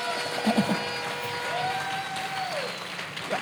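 A church audience claps for Jesus together in a steady, dense wash of applause that holds at an even level throughout, with a sustained tone and a few brief voices rising above it.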